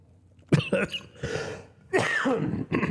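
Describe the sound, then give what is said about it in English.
A few harsh coughs from one person, coming in two or three bursts with brief pauses between them, loud and raspy with some throaty clearing. “There was my cough that just shows up.”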